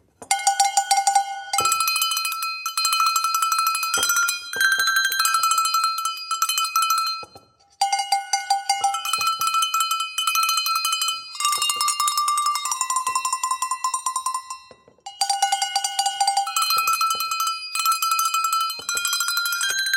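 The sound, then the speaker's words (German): Tuned cowbells, made in a workshop in Thun, the largest about the size of a palm, ring out the folk song 'Munat-Glöckli', bright metallic notes struck one after another in a steady rhythm, the phrase repeating clear with no voices. “Ich tue euch jetzt mal das Munat-Glöckli, das Lied, vorspielen.”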